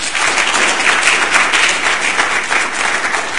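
An audience applauds a speaker after his talk, steadily throughout, a dense, loud wash of many hands clapping at once with no pauses and no voices standing out.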